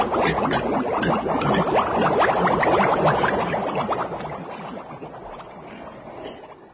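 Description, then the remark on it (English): A crowd of men of a football team noisily gulping down neat gin, 20,000 gallons of it, a dense rush of gurgling, slurping swallows that stays loud and busy for several seconds before easing slightly toward the end. No talking. “Yes, dear listeners, without knowing it, the fools were drinking 20,000 gallons of neat gin.”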